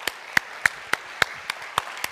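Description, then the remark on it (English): An audience claps together in a steady, even rhythm, about eight crisp, bright claps over two seconds with no talking, set against a faint background hum. “We can clap.”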